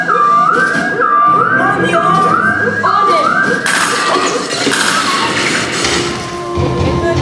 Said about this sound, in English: Before … can finish her first sentence, an explosion from the rafters is heard, and sirens begin to blare.